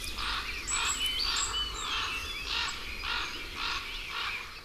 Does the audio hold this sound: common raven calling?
yes